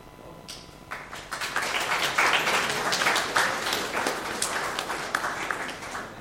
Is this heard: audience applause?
yes